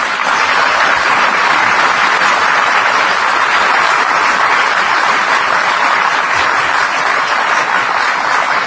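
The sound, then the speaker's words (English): Steady, loud applause from a crowd at Silver Street school, after it is said the school has met state standards under No Child Left Behind, a dense hiss of many hands clapping that holds at an even level for several seconds with no voices over it. “You can't say something that draws applause unless you measure.”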